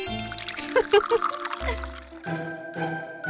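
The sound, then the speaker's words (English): Tea pours into a cup in a short, bubbly trickle, mixed with bright electronic tones and a few brief voice-like sounds, fairly loud. “Pick me up by my handle and pour the tea into the cup.”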